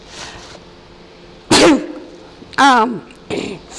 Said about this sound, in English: So I'm going to sneeze again.